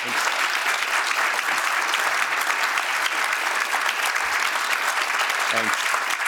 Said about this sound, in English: Nice round of applause for you.